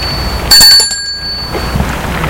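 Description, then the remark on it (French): A doorbell at the front door of a house rings once with a bright, metallic tone whose high overtones linger and fade over about a second, set against a steady hiss of outdoor background noise. “Elle rentre et va vers la maison. Sonne à la porte.”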